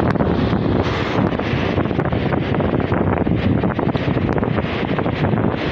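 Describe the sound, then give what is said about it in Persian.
Steady wind buffets the microphone with a constant low roar, blending with the wash of sea waves at the shore; no voices, just continuous loud outdoor noise throughout. “سر سره دریا گوش بدید.”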